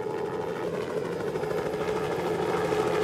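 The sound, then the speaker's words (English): A steady, droning helicopter engine with a faint rhythmic rotor pulse, holding at an even level for a few seconds with no voices. “Half an hour later, they heard a helicopter, so they started to wave.”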